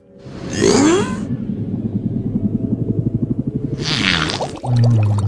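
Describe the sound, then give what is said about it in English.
Whale farts: a low, rapidly pulsing, buzzing rumble that runs for several seconds, with rough bursts of hissy noise near the start and end and no voices. “They say it may just have been whale farts.”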